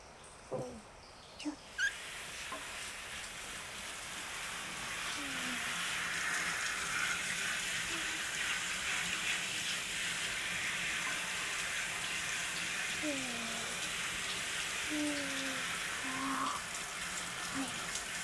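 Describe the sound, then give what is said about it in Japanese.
Steady hiss of shower water running continuously at a hot spring, rinsing the whole body after a shampoo, with the flow shifting slightly as it splashes and rinses, a few small clicks and squeaks at the start. “じゃあ最後にシャワーで全体を流しますね。”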